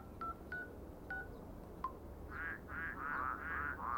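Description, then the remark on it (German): A few short electronic beeps like phone dialing, then a quick series of five or six croaking frog calls repeating in a steady rhythm over a soft background hiss, no voices. “Also entweder haben Sie da gebrauchte Frösche unterm Ladentisch oder Sie sind der Klamottendieb.”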